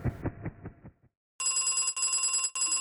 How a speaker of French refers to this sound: La sonnerie de l'interphone retentit.